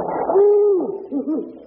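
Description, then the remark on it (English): A sparrow sings on a back fence, holding one steady clear note and then adding a few short wavering chirps, with no one talking over it. “Stick your head out the look window here and look down at those birds in the back fence.”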